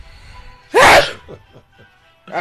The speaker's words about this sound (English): I'm going to sneeze.